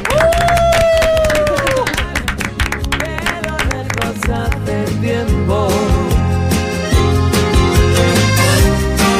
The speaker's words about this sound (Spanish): Como el programa de Ocio y Tiempo Libre, siempre despiden los chicos con un aplauso y a ti te ha salido de manera espontánea. Así que hoy despedimos el programa con un aplauso.